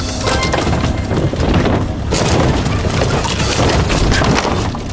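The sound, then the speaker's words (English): The back wall of a house is taken down and collapses in a loud, continuous roar of crunching and splintering wood, with deep rumbling and sharp cracks blending together for several seconds without a pause. “Here goes the wall. Bro, this house is just moving like paper.”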